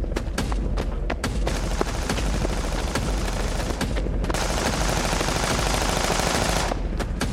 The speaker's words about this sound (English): Jump behind a stalled SUV as bullets hit the ground around me.